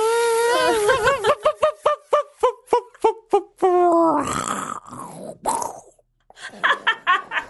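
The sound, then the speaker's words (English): A voice imitates an electric chainsaw, starting with a wavering, revving drone that breaks into rapid stuttering pulses, then a harsh buzzing burst, followed by a short pause and a few choppy vocal sounds. “Now on with the chainsaw.”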